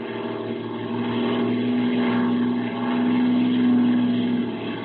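A propeller airplane drones overhead, coming in for a parachute jump, with a steady, humming engine tone that swells louder as it passes, then eases slightly. No voices are heard.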